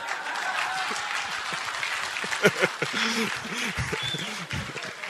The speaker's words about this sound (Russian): Вот. Че не реагируем на? Давай пободрее, аплодисментики дали.